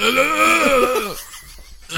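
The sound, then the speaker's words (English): A person imitates a woman's low, guttural scream, a strained, gravelly wail that holds for about a second and slides downward in pitch before cutting off, then a brief rustle. “And it says, Cora said that she screamed a low guttural scream when she saw...”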